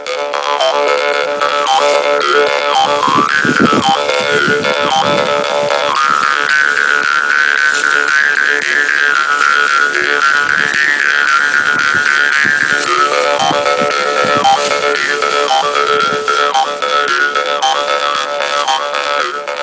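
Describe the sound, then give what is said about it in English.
Karinding, Sundanese bamboo jaw harps, play a loud, steady buzzing drone, with a twangy overtone melody rising and wavering above it. They are played to entertain farmers waiting on their land. The sound continues unbroken for the whole stretch, with no voices. “After a long time, finally karinding is played as instrument to entertain farmers who are waiting their land”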